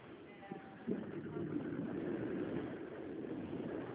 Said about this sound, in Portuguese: Oi, alô, é que eu estou no ônibus.